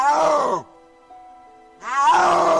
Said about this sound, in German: Das ist doppelt spektakulär, denn es gibt nur noch wenige dieser Großkatzen und sie brüllen im Gegensatz zu Löwen oder Tigern fast nie. Nur wenn sie auf Partnersuche sind. Und so klingt der Brunftschrei eines Schneeleoparden.